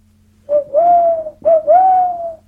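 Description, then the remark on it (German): A voice imitates a little owl with two drawn-out, rising hoots, fairly loud, each about a second long with a short pause between them. “Ich mache jetzt mal Käuzchen.”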